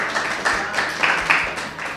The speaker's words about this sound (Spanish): Enseguida volveremos a hablar con este público que nos aplaude tanto y que parece que nos adora.